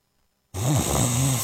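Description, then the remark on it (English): A loud, rasping snore starts abruptly after a moment of silence and rumbles on with a wavering, throaty drone, full, with no talking. “At Mattress Firm, we understand there are many problems that can keep you up at night, like snoring, aches and pains, or sleeping hot.”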